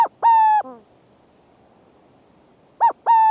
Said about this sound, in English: And let's not forget the burrowing owl.